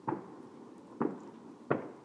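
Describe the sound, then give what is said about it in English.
Three muffled bangs of distant fireworks on Bonfire Night go off at irregular intervals, each a short low thump with a brief rumbling tail, fairly quiet against a soft background hiss. “I mean, we did have a bit of banging and stuff earlier, but it's mostly in the distance.”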